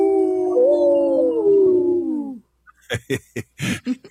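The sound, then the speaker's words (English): A person howls like a wolf in one long, wavering note that slowly falls for about two seconds, then stops. A few short, sharp bursts of sound follow after a brief pause. “This portion of the show is supported by Howling for Wolves, protecting wolves for future generations. How?”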